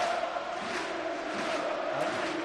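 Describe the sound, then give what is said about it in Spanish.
A packed football stadium crowd at El Sardinero roars continuously after the home side equalizes the match at 2-2, a dense, loud wall of voices that swells slightly without pause, with no individual speech standing out. “La piel de gallina absolutamente con el sonido que emite ahora mismo el sardinero.”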